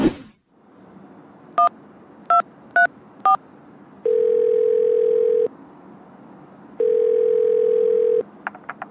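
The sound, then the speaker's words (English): A telephone being dialed in a hotel room to order room service: four quick keypad beeps, then two long, steady ringing tones separated by a pause, ending with faint short blips. No one speaks. “So, there's a guy in a hotel room ordering food over the phone.”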